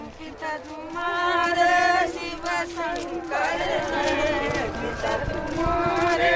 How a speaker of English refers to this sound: It's 5:15 in the morning. It's still very dark out, but you can hear chanting echoing everywhere. Many are making their way to the Ganges for morning prayers and to take a spiritual dip in water.